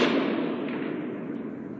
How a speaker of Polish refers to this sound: Słychać jak strzelają, słychać, no ale to wie pan, normalne, czy jak mają tutaj strzelanie, to będzie słychać. To nie jest takie nasilone, żeby codziennie oni strzelali.